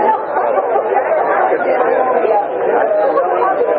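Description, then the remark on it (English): Dense, steady babble of many overlapping voices, a constant loud hubbub of a large crowd of mostly older people and some younger ones talking at once with no single speaker standing out. “A much larger crowd.”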